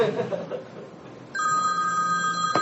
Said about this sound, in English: It's the church's phone. It can ring.